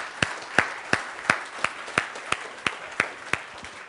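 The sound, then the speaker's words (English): Hands clap in a steady, even rhythm, about eleven sharp claps in under four seconds, over a faint background hiss, with no talking, as a quick round of applause for everybody who presented or did not present, for their hard work. “I just want a quick round of applause for everybody, those who presented or did not present, for the hard work they did.”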